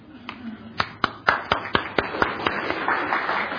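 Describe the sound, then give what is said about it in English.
An audience in a church sanctuary claps for volunteers, starting with a few sharp, evenly spaced hand claps that quickly thicken into steady applause from a group. “Well, we need to applaud our volunteers or we'll start not getting any volunteers, right?”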